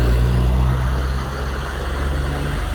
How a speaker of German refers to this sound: Das sind so gepanzerte Truppendinger. Wow. In Wüstentarnfarben.